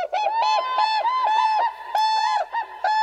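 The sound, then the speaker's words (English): Whooping cranes, birds nearly 5 feet tall, calling loudly in a steady run of bugling, honking notes repeated in quick overlapping bursts for about three seconds, with no talking. “Standing nearly 5 feet tall, the whooping crane is the tallest flying bird in North America.”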